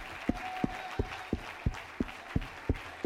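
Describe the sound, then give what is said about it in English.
An audience clapping hands together to bless the name of God, in a steady, unified rhythm, about three sharp claps per second, over a dense wash of crowd noise and a faint sustained tone. “Oh, clap your hands and bless his name.”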